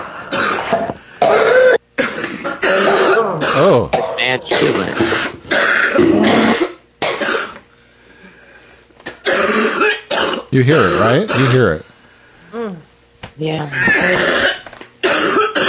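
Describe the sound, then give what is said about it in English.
An elderly woman coughs repeatedly in harsh, hacking fits with some throat clearing, loud, while people talk between and over the bouts; a recorded sound effect. “Grandma's cough? Is it called Grandma's cough?”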